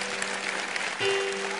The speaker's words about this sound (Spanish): Den un aplauso a Dios, que Él se lo merece.